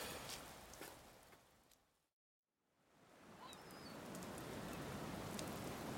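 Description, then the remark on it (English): Steady rain hisses in a dense, even wash, briefly fading to silence before swelling back in. A faint bird chirp slips through the downpour, and no one speaks. “can we please go inside after the rain?”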